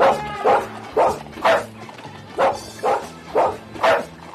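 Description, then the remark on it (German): The dog Timmy barks repeatedly in a steady rhythm, about seven loud, sharp barks spaced roughly half a second apart, with no talking. “Vielleicht kann man es auch mal eben einspielen, wie Timmy bellt.”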